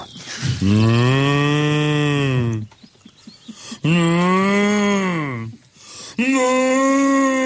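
A cow moos three times, long, loud, drawn-out bellows with brief pauses between them, with no one talking over them.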